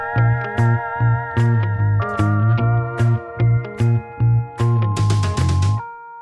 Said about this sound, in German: Aber ich spiele mal den Jingle einfach mal ab. Meine Damen und Herren, hier für Sie die Papas Tipps der Woche.